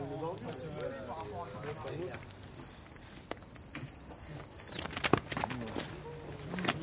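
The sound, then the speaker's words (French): A dog handler blows a loud, shrill recall whistle to call a dog back during training; the blast holds steady for about two seconds, then drops slightly in pitch and fades out, followed by faint outdoor rustling and scattered soft sounds. “donc je vais rappeler, hein, à l'aide d'un sifflet.”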